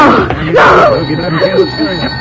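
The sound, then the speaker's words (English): A telephone rings with a harsh, buzzy tone, partly overlapped by a man's voice speaking briefly, with a faint steady high whine lingering underneath. “That's the phone, Slim.”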